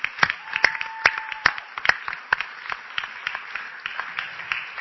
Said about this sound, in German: Und der Slogan, der vorne an diesem wahnsinnig coolen Plakat steht, ich weiß nicht, wer es gemacht hat, aber ich klatsche auf jeden Fall mal dafür.